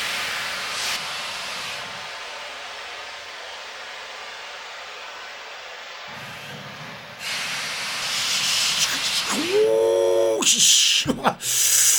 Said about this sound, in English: Oh, well, away go the steam engines.